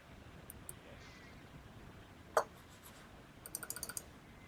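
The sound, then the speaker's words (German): Quick, sharp clicks of a computer mouse powered by alkaline batteries, which is not responding: quiet scattered single clicks, then a rapid burst of several in a row near the end, with no one speaking. “Sie hören ein energisches Klicken, aber es tut sich immer noch nichts.”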